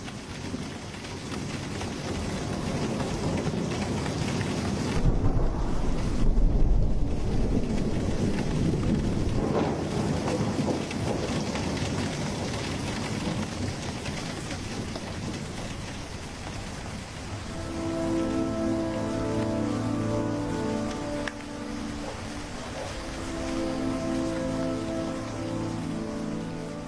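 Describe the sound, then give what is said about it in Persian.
Steady heavy rain pours down, with deep rumbles of thunder rolling through around the middle. Later, low tonal hums rise beneath the constant patter of the downpour. “تابستون بعدش که مامان و بابامو از دست دادم، بازم بارون میومد.”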